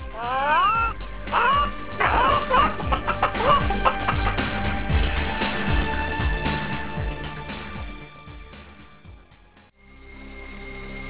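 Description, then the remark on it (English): Chickens squawk and cluck in a frantic, overlapping burst of high shrill cries, loud, gradually thinning out before a short pause and a low lingering hum. “Given the proper farm implement, them chickens sure know how to squeal.”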